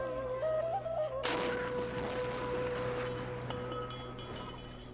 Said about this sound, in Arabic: يلا يا عيال بنسير جدل مدفع، وشلوا تمركم ومايكم عسب تفطرون من يذن. ابويا اخاف من صوت المدفع، عادي اسد دنيا؟